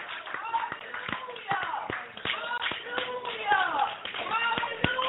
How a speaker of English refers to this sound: Come on, give him praise, everybody. Come on. Clap your hands and give him praise. Come on, clap your hands and give him praise.